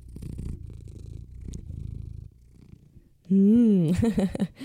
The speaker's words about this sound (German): Ich hoffe, ihr hört jetzt nicht meinen Kater, der hat sich gerade auf meinen Schoß gepflanzt und schnurrt hier ganz intensiv. Ich lasse ihn einmal ins Mikrofon für euch reinschnurren.